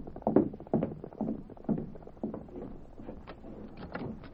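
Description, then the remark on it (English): Hoofbeats of several horses of a riding posse passing by, a quick irregular clatter of clip-clops that starts fairly loud and grows slightly softer and busier, with no voices. “Why them fellas ride like that? That must be a posse.”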